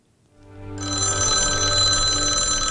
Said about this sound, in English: The phone rings.